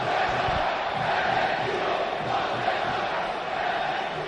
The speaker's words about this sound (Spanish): De momento han sido unos gritos procedentes solo del fondo sur del estadio. No ha sido unánime en el campo, ¿eh?